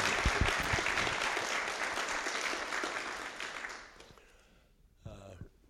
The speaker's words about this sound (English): you want to clap for my wife. To powinniście raczej klaskać dla mojej żony. She tolerated me for 50 years. Za to, że mnie przez 50 lat toleruje. So I will tell her you clap for her. Więc lepiej dla niej zaklaszczcie.